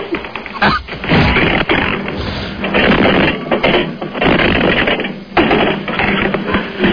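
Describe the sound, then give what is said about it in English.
A refrigerator with a stick of dynamite inside being knocked over: several seconds of loud, continuous clattering and thudding with rattling bangs layered throughout, and no voices. “Rob suggested he put it in his refrigerator with a stick of dynamite and knocked the fridge over.”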